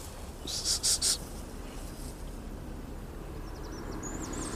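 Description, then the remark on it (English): A goldcrest calls on an island: a quick burst of three very high, thin, sibilant notes, followed later by a fainter run of tiny high notes, all over a steady low rumble. “There's a goldcrest there.”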